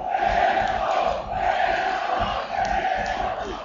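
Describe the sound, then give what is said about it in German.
A large football stadium crowd chants loudly and continuously as spectators urge their team forward during a match, a dense wall of voices swelling in rhythmic waves with no break or single voice standing out. “Und die Zuschauer peitschen den WSV nach vorne.”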